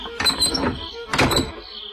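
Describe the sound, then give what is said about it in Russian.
A woman slides shut the metal bolt on a shed door. It scrapes and clunks into place in two distinct movements, with no voices, followed by a short quiet tail. “Она подошла на цыпочках к сараю и для спокойствия задвинула засов на двери.”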